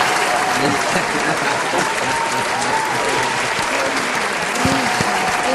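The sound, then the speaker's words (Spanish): An applause sound effect: steady, dense applause from a crowd, loud and sustained for several seconds, with faint voices and cheers mixed into the clapping. “Eso, ponte unos aplausos para ti misma,”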